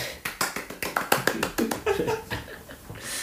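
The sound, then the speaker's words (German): A brief round of applause: quick, sharp hand claps in a steady patter for about two seconds, then thinning out, with a faint voice briefly mixed in. “Applaus bitte.”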